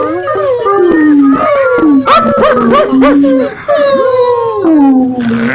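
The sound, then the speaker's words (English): Several voices imitate whining puppy moans, overlapping in loud, wavering high whimpers and howl-like cries that slide up and down continuously for several seconds. “And Daryl whines quietly. Can I get a little puppy moans, please?”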